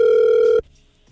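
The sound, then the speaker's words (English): A telephone line rings while calling a woman: one loud, steady electronic ringback tone holds for about half a second, then cuts off abruptly into near silence. No one speaks. “Okay, we'll give her a call for you next, all right?”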